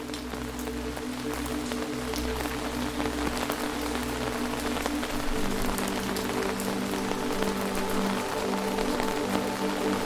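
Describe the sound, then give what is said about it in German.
Steady rain patters in a fog-covered forest, with scattered individual drops ticking through a dense, even hiss, over a low sustained hum. No one speaks. “Fasziniert beobachtest du, wie sich das bläuliche Licht mit den Regentropfen vermischt und einen fast überirdischen Glanz erzeugt, als würdest du auf einem Pfad aus flüssigem Mondlicht wandeln.”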